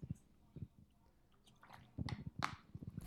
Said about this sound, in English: Listen to him drinking. I'm drinking water, man, because my mouth's drying out.